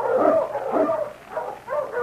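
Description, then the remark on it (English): A husky sled dog barks and yips eagerly as it is urged on to pull a mail sled, about four sharp, excited barks in quick succession, fairly loud, with no one talking. “On, King! On, you husky!”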